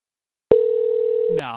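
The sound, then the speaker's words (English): A telephone gives one steady, loud electronic ring tone, lasting about a second before it cuts off and a voice starts speaking. “You get excited about it, and then the phone rings for a good solid 10 minutes straight.”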